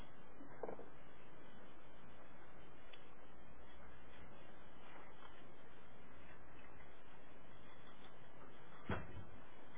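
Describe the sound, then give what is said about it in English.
A door is shut with a dull thud near the end, after a softer knock early on, against steady room hum and faint shuffling, with no one talking. “If you could kindly close the door.”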